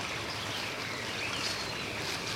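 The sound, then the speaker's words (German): A mountain stream in a forest gorge splashes and rushes steadily, a continuous bright burble of water with no pauses. There is no talking, and faint high chirps may sit under the flow. “Wenn du genau hinhörst, dann merkst du, dass das Plätschern des Wassers noch etwas lauter wird.”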